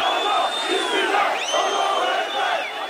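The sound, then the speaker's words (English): A large crowd chants and roars at a late-night, flag-waving rally in Turkey supporting President Recep Tayyip Erdogan after a failed military coup attempt, a dense, steady wall of many voices with rising whistles cutting through, loud throughout with no pauses. “Crowds waved flags at the late-night rallies and chanted their determination not to let anything or anyone divide the country.”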